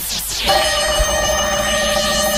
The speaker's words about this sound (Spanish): A ver si coge el teléfono ahora.